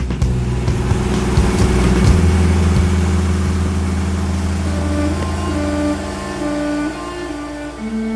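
A car engine runs with a steady, loud rumble, its pitch climbing and dropping in short revs toward the end. No one speaks.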